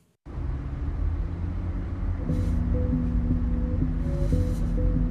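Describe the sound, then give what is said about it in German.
Steady low engine rumble of a nearly full minibus driving through Cologne, Germany, heard from inside, with shifting tonal hums as it changes speed and a faint hiss of passing traffic. “Ein Kleinbus fährt durch Köln.”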